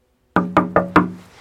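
Four quick, evenly spaced knocks on a door, loud and close, each with a short resonant ring, then a faint trailing tap; no voices.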